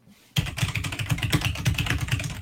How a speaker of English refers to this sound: Okay, do your clicking on your mechanical keyboard. Just randomly type.